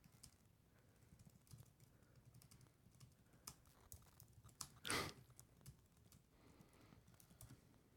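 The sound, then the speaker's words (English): Irregular, soft clicking of keys on a computer keyboard as someone types a tweet, fairly quiet, with one louder clack near the middle; no one speaks. “Are you still typing?”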